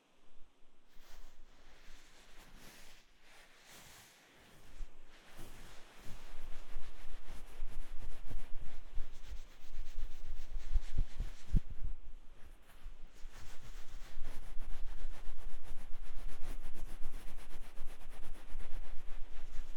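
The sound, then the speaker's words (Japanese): Continuous rubbing and rustling of a towel drying damp hair before a hair dryer is used, starting softer and growing steadier and louder with a busy, brushing texture and no talking. “ドライヤーの前にタオルドライしますね。”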